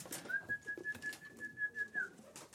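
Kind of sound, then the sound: bird, domestic pigeons cooing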